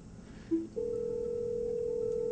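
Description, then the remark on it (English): A short electronic beep is followed by a steady, continuous calling tone as Office Communicator software places a call to a mobile phone. The tone holds unbroken to the end, clear, with no one speaking. “So I'm just going to call myself from using a communicator. Call mobile.”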